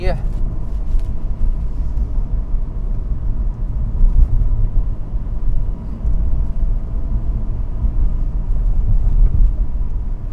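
A car drives in freeway traffic, a loud, steady low rumble of road and engine noise that holds for the whole stretch, like riding inside the vehicle.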